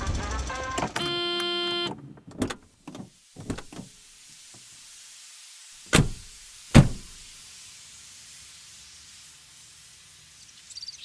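A car's door-open chime rings, then clicks and shuffling as people climb out, followed by two loud, close door slams a moment apart, with a steady hiss lingering underneath.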